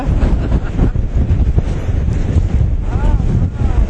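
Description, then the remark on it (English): Strong wind buffets the microphone in a loud, continuous roar, with rushing surf churning at the shoreline; a brief vocal sound briefly rises above the noise. “Okay, the wave will take me away.”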